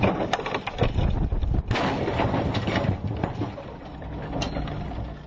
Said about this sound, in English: was the lead test engineer for the helicopter fuselage crash test